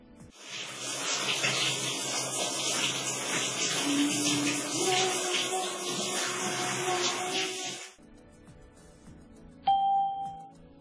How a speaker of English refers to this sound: He's having a shower.